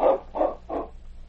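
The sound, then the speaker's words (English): Klondike's sled dog team, borrowed by Sergeant Preston, barks: three quick, sharp barks in a steady rhythm, moderately loud, over a faint low hum. “Then he said, "You won't be going anywhere for a while, Klondike, so I'm going to borrow your dog team.”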